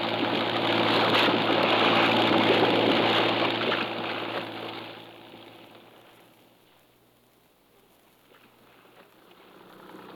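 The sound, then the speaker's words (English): A boat engine chugs steadily with a low, droning hum over rushing water as the boat heads into a river, loud at first, then fading before swelling slightly again at the end. “All right, Captain, into the river.”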